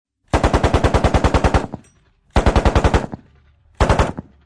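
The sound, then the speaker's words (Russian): A machine gun fires three rapid bursts, a long rattling string of sharp, loud shots followed by two shorter ones, with brief silent pauses between them and no voices. “Резко и плотно затарахтел крестовик.”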